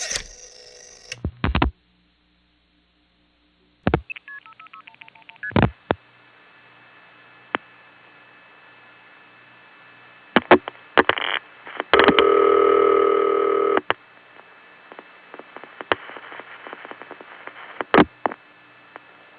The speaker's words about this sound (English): Here's an example, dialed from my parents' line, which I recently found out was crossbar 5, and you'll notice the call goes through with the audible tones.